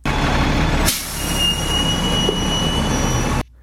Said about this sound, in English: And this actually is a bus stopping and opening its doors. Quite simple.